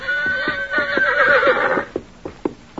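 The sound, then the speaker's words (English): A horse lets out a loud, quavering whinny lasting about two seconds, with steady clip-clopping hoofbeats underneath that keep going briefly after the call fades. “The horse quivered, then slowly walked toward the small boy, who stood with tears of joy running down his cheeks.”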